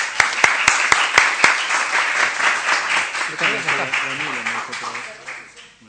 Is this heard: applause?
yes